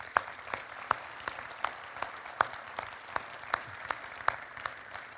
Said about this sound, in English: And so let's just take a moment and let's give all of these volunteers a round of applause.